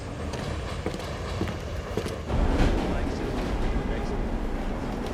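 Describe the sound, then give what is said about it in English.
A subway train heading for Broad Street station rolls along with a steady rumble and rattle, growing louder and heavier about halfway through and then holding at that level. “On the subway, the stocky man keeps an eye on the painter.”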